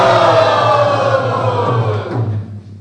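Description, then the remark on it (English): A group of devotees cheers and shouts together in joy with arms raised, acknowledging the service of the prasadam servers, in a loud, sustained burst of joyful noise that holds steady for a couple of seconds, then fades away at the end. “let us gratefully acknowledge their service by raising our arms and shouting in joy,”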